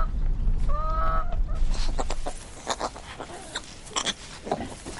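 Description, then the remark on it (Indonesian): Farm animals calling on a farm: a drawn-out honking goose call over a low grunting pig rumble, followed by scattered clucking chicken sounds in short irregular bursts, with no one talking. “Satu-satunya musik pendukung film itu adalah suara alami hewan-hewan itu di peternakan.”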